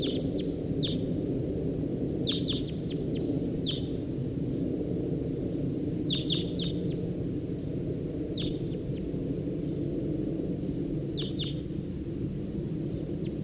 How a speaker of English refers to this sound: Recording a wild bird. That was 40 and 5-7 on the side. Wild bird. Wild bird.